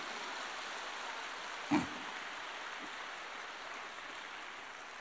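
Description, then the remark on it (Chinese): An audience applauds in a steady, dense patter of many clapping hands that holds an even level throughout, with one brief louder knock partway through and no talking. “根据你们的掌声来判断，现在有很多人已经开悟了”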